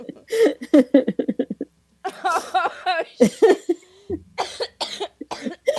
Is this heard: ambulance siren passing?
no